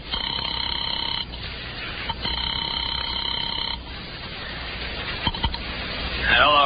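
A telephone call to a bookie joint rings twice in long, steady buzzing bursts with a thin, line-quality tone, followed by a couple of sharp clicks as the line picks up and a voice begins.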